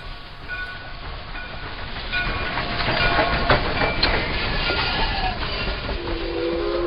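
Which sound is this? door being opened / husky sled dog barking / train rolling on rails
train rolling on rails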